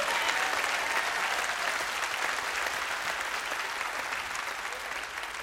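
A crowd claps steadily throughout as a hand clap of praise to God, a dense, sustained wash of many hands applauding together, holding even in loudness and tapering only slightly toward the end.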